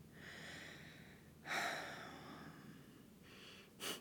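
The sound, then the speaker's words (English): Heavy breathing through pain in a sore hip flexor as pressure is applied to it, with long drawn breaths broken by a couple of sharp, forceful intakes, the last one short and abrupt. No one speaks. “I'm just breathing through it.”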